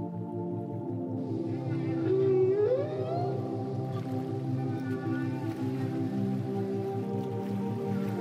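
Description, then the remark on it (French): Dolphin vocalizations underwater: a clear rising whistle stands out, with fainter squeaky chirps scattered over a steady, muffled low hum and a pulsing rumble throughout. “« Il manquerait plus que des dauphins. » Et vous connaissez la suite.”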